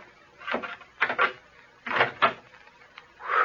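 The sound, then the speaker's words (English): An old wooden door creaks open in a series of short, groaning bursts, moderately loud, with brief pauses between each strained movement. “This is the door, I think.”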